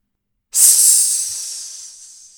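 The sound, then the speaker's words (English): A loud, sharp hiss bursts in suddenly after a brief silence, bright and airy like escaping steam, then slowly tapers off over about two seconds without stopping completely. “That line ends with parentheses, loud hiss.”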